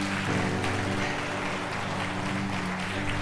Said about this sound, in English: So give them an applause.